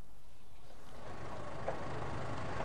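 A bus engine idles with a steady, low rumbling drone and a broad hiss of traffic noise, moderately loud, continuous for the whole stretch with no talking.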